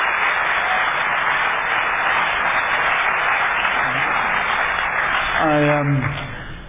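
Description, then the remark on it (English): Sustained audience applause for three speakers, a dense, even wash of clapping holding steady for about six seconds before tapering off, with a voice briefly rising over it near the end. “Perhaps another round of applause for all three of our speakers.”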